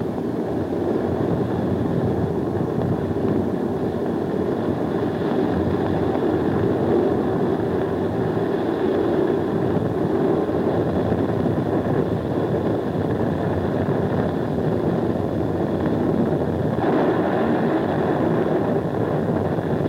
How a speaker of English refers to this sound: when it starts warming up like that, the jet, it just warms up the whole air all around the ship